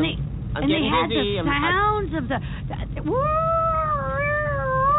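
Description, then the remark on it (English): A voice, with head out of a window, imitates an ambulance siren with wavering, swooping wails, then one long rising wail that levels into a steady held tone, over a low rumbling background. “I got my head out the window and I'm making ambulance sound because you want me to go faster.”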